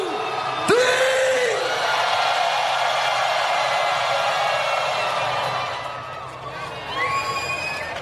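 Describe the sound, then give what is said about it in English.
A large concert crowd in Miami, hands in the air for a family photo, erupts in sustained screaming and cheering, a loud wall of voices that holds steady for several seconds before dipping, with a few high whoops rising near the end. “So on the count of three, put your hands in the air and scream so the motherfucking aliens can hear us.”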